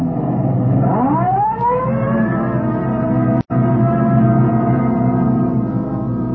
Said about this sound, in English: Code 3, red light and siren. Come on, Friday, let's roll.